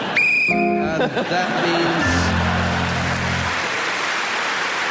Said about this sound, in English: And that means you're still going when the whistle went, which means that you are now the champion of the universe.